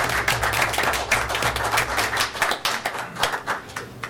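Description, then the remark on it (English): Scattered clapping from a small group after an oath of office is taken at a meeting, a steady patter of overlapping handclaps with sharp bright snaps, moderately loud and continuing for about four seconds without any speech. “Is he just clapping that we can read?”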